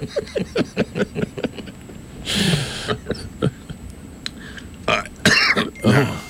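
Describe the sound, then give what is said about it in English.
A man coughs and clears his throat in a harsh series of short rasping bursts, with a few longer heavy hacks mixed in and no talking. “It's a Texan's making him cough up his lung.”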